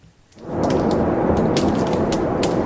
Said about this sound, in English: And here it is. These are again, the waves at the surface.